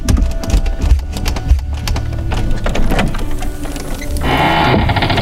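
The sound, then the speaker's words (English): Somebody up on a rooftop ripping the roof off to make a hole: a loud, steady mass of cracking, scraping and clattering with scattered sharp knocks, turning into a harsher, hissing grind in the last second. No voices. “It appears like somebody's ripping the roof off.”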